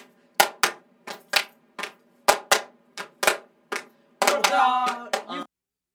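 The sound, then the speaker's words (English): A group claps in a fairly steady rhythm while recording a clapping layer over a song track. About a dozen sharp, loud claps break into a brief flurry of overlapping claps and a short burst of voice near the end. “We'll put a clapping layer over.”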